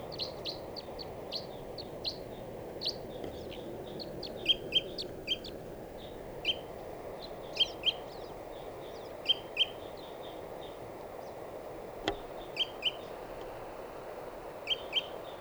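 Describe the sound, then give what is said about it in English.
A wild bird in a dead tree calls repeatedly in short, high chirps and paired notes, scattered irregularly over a steady low background hiss, with no one talking. “This is the wild bird.”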